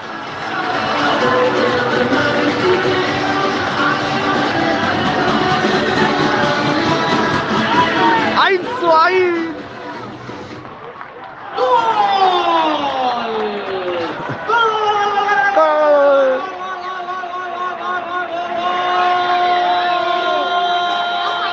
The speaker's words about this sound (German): So hört sich ein Tor in Alcorcón an. Juan Hernández! Gol de Alcorcón! Vamos, equipo!